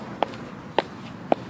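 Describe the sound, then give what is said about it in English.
Three distinct footsteps land at a steady, unhurried pace, each a short knock on a hard surface against a quiet background, as someone climbs steps up to an apartment door. “Up these steps,”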